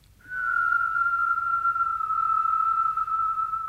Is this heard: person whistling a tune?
yes